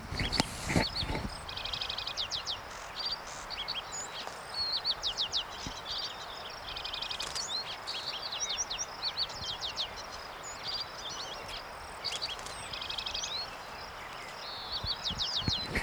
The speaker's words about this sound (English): That, of course, is a lark sparrow in the background, in the near background.